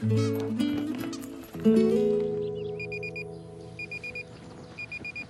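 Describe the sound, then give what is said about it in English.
An alarm clock beside a bed beeps in quick bursts of rapid, high electronic pips, repeating three times about a second apart before it is switched off, over sustained music that starts loud and gradually fades. “reaches over and turns off the alarm clock”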